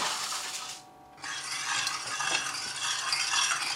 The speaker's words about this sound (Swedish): Så nu ska jag visa dig. Ska jag koka upp vatten och lösa upp socker i den. Du gör en sockerlag helt enkelt.